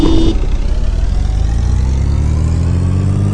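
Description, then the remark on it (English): Synthetic racing-game car engines rev loudly and continuously at the start of an online two-player race, one opponent driving a Blackbird car, a droning mechanical whine whose pitch climbs steadily as the cars accelerate, with a brief higher tone at the very start and no voices. “Start your engines.”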